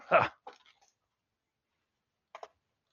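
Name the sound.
dog barking and whimpering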